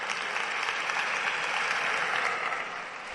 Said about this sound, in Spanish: Y el aplauso también de Sevilla para estas declaraciones del alcalde, entendiéndose que coincide con el alcalde.